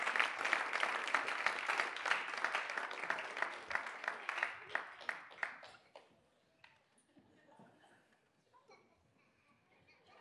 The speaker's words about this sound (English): Folks, give all of my willing volunteers a big round of applause.